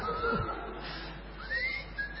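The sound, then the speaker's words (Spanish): A person whistles thin, wavering tones that rise and glide, imitating air whistling at night through a very small hole, a few separate drawn-out notes over faint background hiss. “Y aparte, aparte, ojo, porque el agujero es tan chiquito que de noche chifla, se escucha un... Empieza a chiflar.”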